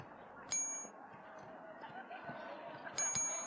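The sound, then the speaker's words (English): A bright, high-pitched electronic ding from a touchscreen basketball game chimes once, then repeats as two quick dings near the end, each ringing briefly over a steady murmuring background noise; the single ding signals the shot is lined up as a finger moves left and right on the screen. “So again, all I did to line up my shot is place my finger on the screen, moved it a little bit left and right until I heard the single ding”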